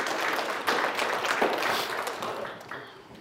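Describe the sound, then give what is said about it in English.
A crowd applauds the speaker's grandsons with dense, steady clapping that holds at a fairly loud level for about three seconds, then gradually tapers off. “Give my grandsons a hand clap.”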